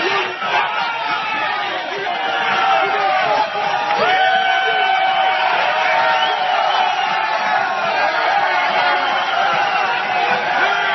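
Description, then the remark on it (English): A large crowd of protesters against an anti-union law in Michigan cheers and shouts continuously as they tear down an Americans for Prosperity tent on the Capitol lawn, a dense roar of many voices with whoops and yells rising over it, loud and sustained throughout. “This is what it sounded like as that tent came down.”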